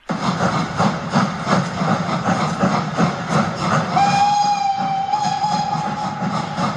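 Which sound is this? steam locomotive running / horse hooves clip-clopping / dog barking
steam locomotive running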